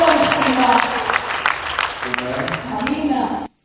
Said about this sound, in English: How many have heard the voice of God during this week? Can you give God a clap offering this week?